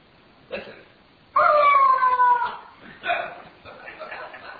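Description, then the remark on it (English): A rubber chicken toy lets out a loud, drawn-out squawk with a sliding, slightly falling pitch, then a shorter, fainter second squawk trails off into soft noise. “It is a rubber chicken. But it's not just any rubber chicken. This rubber chicken can speak.”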